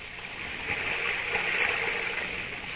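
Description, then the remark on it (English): A steady, muffled rush of running water heard through a wall, like a river flowing under the ground, holding an even, continuous roar with no voices. “When I press my ear against the wall, I can hear the water running like it was a river under the ground.”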